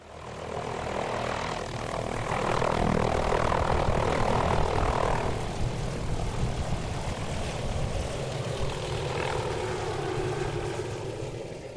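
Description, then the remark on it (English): A helicopter flies in to Lake Graney at the western end of the Haast Range, its engine roaring loudly and steadily with a rapid low thumping from the rotor. The noise holds throughout, easing slightly toward the end, and no one speaks. “The big question hanging over us was whether the helicopter could make it in 2 days in a row.”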